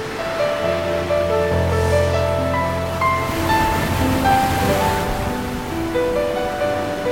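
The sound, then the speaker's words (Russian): Ocean waves crash on the coast of Crete in a continuous, loud roar of surf, with sustained musical tones playing over the wash of water throughout. “Ой, а какие волны!”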